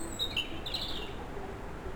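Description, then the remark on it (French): A few short, high bird chirps sound in the first second, faint, over a steady outdoor ambience in a mid-mountain valley with a low rumble of wind. “60 ans, les oiseaux, les sonnailles au loin.”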